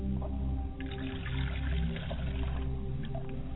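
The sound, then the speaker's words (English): Water is poured out as a libation to the west in a steady, unbroken stream for a few seconds, over a low resonant hum. Nobody speaks. “I pour libations to the west and I say Ashe.”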